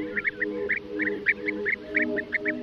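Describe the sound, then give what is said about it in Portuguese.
A colourful bird that visits Portugal in the warmer months, from April to August or early September, before migrating back to Africa, calls over and over, short rolling chirps in quick, uneven bursts, as if several birds call together, with a low steady hum underneath and no talking. “É das aves mais coloridas que podemos avistar no nosso território.”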